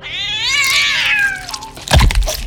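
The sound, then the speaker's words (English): A fat house cat named Woody, trying to take down a buck, lets out a long, loud, wavering yowl that rises and then trails off, followed by a sharp, heavy crack or snap. “Woody let out a yowl, followed by a god-awful snap.”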